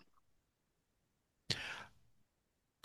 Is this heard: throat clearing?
yes